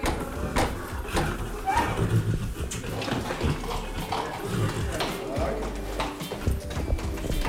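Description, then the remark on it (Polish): A horse named Sejlan, having opened the door itself, walks out into a corridor; its hooves clop on a hard floor in an uneven walking rhythm of sharp knocks, with faint voices and movement in the background. “w robieniu porządku z tym koniem pomagała … z radiowym mikrofonem”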